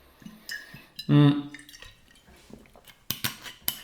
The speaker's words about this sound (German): Denn ich werde jetzt ganz kurz einen Schluck Wasser nehmen